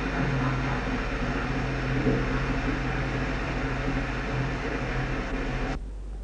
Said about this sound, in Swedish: Och det gör man genom att sätta tryck på tanken så det får rinna ut, vattnet får rinna ut i underrummet. Och det är det vi nu hör. Det tar en liten stund, men det är klart. Nu är det strax klart.